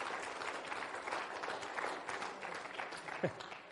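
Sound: audience hand clapping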